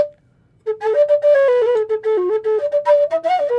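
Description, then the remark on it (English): A short, lively melody played on a tin whistle, with bright, clear notes shifting quickly up and down for about three seconds after a brief silence. “I've actually got all my whistles with me.”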